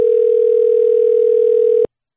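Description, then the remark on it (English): A single steady electronic ringing tone of an outgoing phone call sounds for about two seconds, clear and even, then cuts off into silence. No one speaks. “Like, I'm calling her. I just don't. Okay. I'm really nervous. Oh, it's ringing.”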